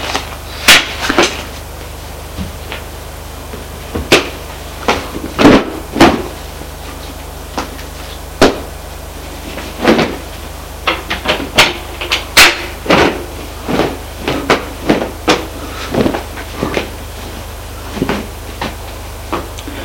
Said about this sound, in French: Une fois dans sa chambre, il prend ses valises qui sont sur l'armoire. Il commence à la remplir.